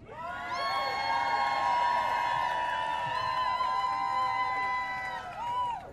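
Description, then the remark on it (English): A crowd in Wisconsin erupts in loud, sustained, rowdy cheering for a picture, with high whoops and shouts stacked over a dense roar of voices that holds steady for several seconds before fading slightly at the end. “Can I see a rowdy crowd?”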